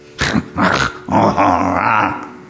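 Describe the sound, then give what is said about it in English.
A human voice imitates a wolf's growl: two short rough growls followed by a longer, drawn-out snarling rumble, loud, with no talking. “If I would have been abandoned by my parents at the time of birth, and I would have been brought over the Polish border where there are still wolves, and if I would have grown up amongst wolves, I would speak like a wolf to you.”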